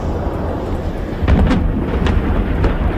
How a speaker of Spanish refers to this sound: Una ofensiva que no se detiene y que ha hecho resonar de nuevo el estruendo de explosiones y aviones de combate, incluso en zonas de Teherán.